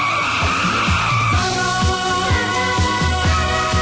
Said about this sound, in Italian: Un solo uomo è in grado di porre fine a questi soprusi e arriva in sella ad una rombante motocicletta.